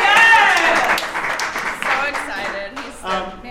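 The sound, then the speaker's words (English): An audience claps in a dense, steady burst of applause, mixed with cheering voices, loudest at the start and tapering slightly over a few seconds. “Let's just give another clap.”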